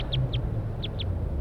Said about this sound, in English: So recording, we got wild birds calling from the treetops.